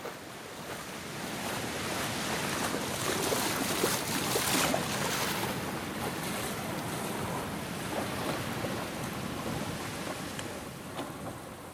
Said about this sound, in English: the sound of the sea coming in there on a rough day, like, it's amazing, and the waves crashing